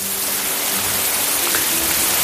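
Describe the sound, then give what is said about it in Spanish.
Steady rain pours down in a dense, even hiss, with no pauses or voices, a continuous wash of falling water. “Este es un sonido que añoramos.”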